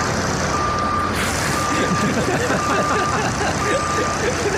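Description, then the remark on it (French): The reversing alarm of a crane hired from Kiloutou, being driven all the way to a stadium, sounds four steady, evenly spaced mid-pitched beeps, each about half a second long, over a constant loud rumble of engine noise and clatter. “Surtout, faut se taper tout le chemin jusqu'au stade avec ce son-là.”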